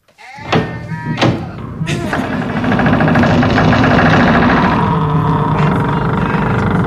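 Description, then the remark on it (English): A squeaky door in need of oil lets out a few sharp, high-pitched creaks and squeals in quick succession, then gives way to a steady, rumbling noise that fills the rest of the moment. “I hate that door.”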